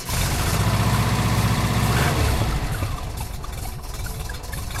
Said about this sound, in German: T3-Bulli mit einem 2-Liter-Motor, Baujahr 1980, so ein richtig schöner Oldtimer.